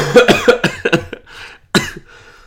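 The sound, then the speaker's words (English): A burst of heavy, rattling coughs in quick succession, loud, from a person who is sick, followed by a short pause and one more harsh cough trailing off into a wheezy breath. “As I fucking cough up a lung.”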